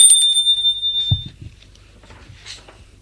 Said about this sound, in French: Un après-midi, elle sonne chez Damien.